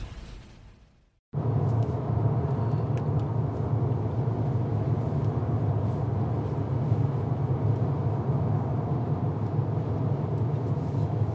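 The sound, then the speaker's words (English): Steady interior road noise from a moving car: a constant low rumble with a broad hiss above it. It starts abruptly after a brief fading noise and a moment of silence, and nobody speaks. “I'm driving in my car, headed to a homegoing service for a friend of the family”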